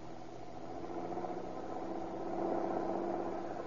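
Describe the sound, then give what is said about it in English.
A car engine hums steadily on an ocean highway with a low, droning rumble that swells slightly louder toward the end as the vehicle approaches. No one speaks. “Hey, here comes a car.”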